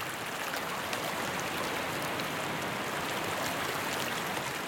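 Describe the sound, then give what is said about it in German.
A steady, even rush of water pours on without pause, a soft continuous hiss of a waterfall flowing gently into a small lake, with no voices. “Es fließt von dem Wasserfall sanft in den kleinen See.”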